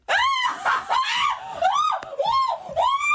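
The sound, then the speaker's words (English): A voice reenacts screams of pain from having a hair-removal strip pulled off: a series of loud, high, wavering cries with strong harmonics, rising and falling in quick succession, with no words spoken. “And in that moment, my soul travels to hell. I screamed.”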